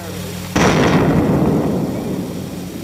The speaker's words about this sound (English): Bomb testing continued for decades, including this 1953 explosion in the Nevada desert.